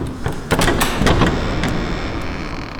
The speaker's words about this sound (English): A great door opened.